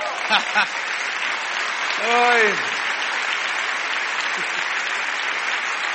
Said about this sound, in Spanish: ¿Cuántos locos le dan un aplauso al Señor?